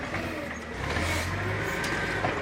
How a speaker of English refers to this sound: Move out the way of the forklift.